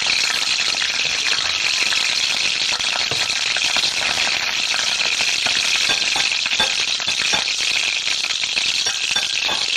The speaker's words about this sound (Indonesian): Hei, lihat, sekarang aku sudah berteman dengan panci untuk memasak air, lalu bersama penggorengan untuk menggoreng ikan. Harumnya ikan goreng ini, senangnya.